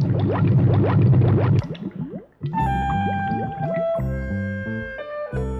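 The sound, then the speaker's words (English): Water gurgles and bubbles up loudly in the bottom of buckets as they refill, for about a second and a half with quick rising bloops, then fades into sustained, gently shifting musical tones. “But to their astonishment, they heard a gurgle in the bottom of the buckets and saw them refill.”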